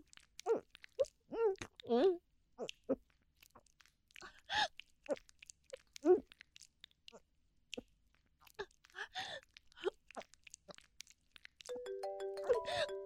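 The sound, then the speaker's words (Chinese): A mobile phone ringtone starts near the end, a steady electronic melody of stepped tones playing clearly and fairly loud after a stretch of scattered short vocal sounds. “等一下，我电话来了。”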